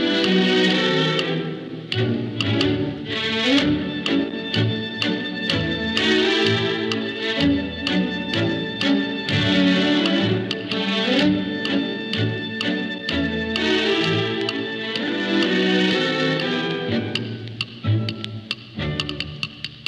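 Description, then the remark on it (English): Lively, syncopated orchestral music by a young New England composer plays loudly and steadily throughout, with a crisp clock-like ticking woven into the bouncy rhythm. No voices. “And the rather jumpy, persistent, and cockeyed rhythm of the times we live in have just been captured in music by a brilliant young New England composer”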